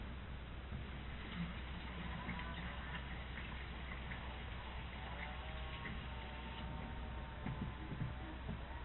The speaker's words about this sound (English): Well, I tell you, now your clock, what do you have, what kind of clock do you use? That's an electric clock.